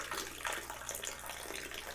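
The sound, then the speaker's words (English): Steady running and splashing water, like a stream poured into a basin, with a broad hiss and irregular bright spatters throughout. No one speaks. “You're splashing.”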